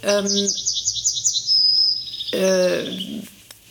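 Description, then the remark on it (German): A yellowhammer sings a quick, husky trill of repeated high notes ending in a drawn-out wheezy note, clear, with a low voice briefly heard beneath it. “Ja, ich will einfach nur die Goldammer hören.”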